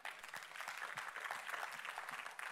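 A crowd claps steadily, a dense, even patter of many hands sustained at moderate loudness with no voices standing out.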